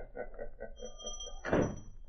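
door being shut

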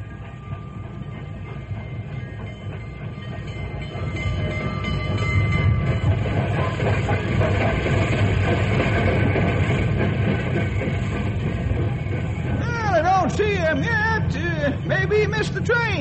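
train arriving at station

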